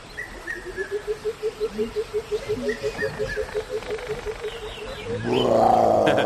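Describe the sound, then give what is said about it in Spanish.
A 4-metre Nile crocodile gives a steady run of low, throaty pulsing grunts, about three per second, then breaks into a louder, rough rumbling growl at the end. “Es un cocodrilo del Nilo de 4 metros.”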